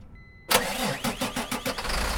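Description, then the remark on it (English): A rollback flatbed tow truck with a Mercedes-Benz 906 engine is started by remote start: after a brief electronic beep the engine cranks and fires up, then settles into a lumpy, rhythmic idle with repeated throbbing pulses, fairly loud. “It has a remote start. It has air brakes, airbags, air horns, and it's a nice rollback flatbed tow truck.”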